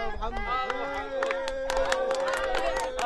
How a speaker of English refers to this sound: And further down the end of a long and dusty row of tents, people crowd around